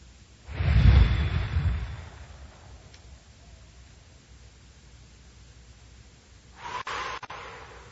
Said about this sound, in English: Oh, man, I can hear my stomach growling. Actually, I can hear all sorts of weird noises down in there. What the hell is that?